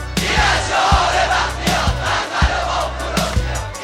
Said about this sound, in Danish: university students demonstrating in Tehran, shouting death to the Shah. Every day here now, the demonstrations and arrests go on.